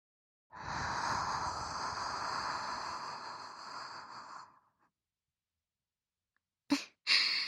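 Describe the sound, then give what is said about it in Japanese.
A long, soft, breathy exhale blown into the listener's ear lasts about four seconds, then silence, followed by two brief sharp puffs of air near the end. “実際のところは反対の耳もふーってしてほしいんですよね。こういう風に。”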